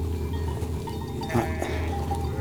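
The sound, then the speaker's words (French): Several ewes bleat over a steady low rumble as they move along a ridge and around a summit, guided by a shepherdess and her dog, with a louder cluster of overlapping calls near the middle and fainter bleats scattered throughout; no one speaks. “qui guident et déterminent les déplacements des brebis.”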